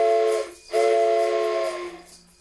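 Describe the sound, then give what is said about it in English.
A toy train whistle blown twice during a song recording session, a short breathy blast and then a longer chord-like one that fades out, with airy hiss around the tones and no talking. “And then take this train whistle and blow the train whistle every other time.”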